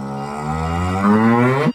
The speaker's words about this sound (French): Il joue des coudes pour se faufiler entre ses bêtes. Trois vaches à la colonne vertébrale saillante se bousculent dans le noir.